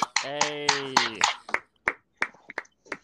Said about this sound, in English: I want to have another round of applause, right? For us to actually have 5 people in the fucking podcast.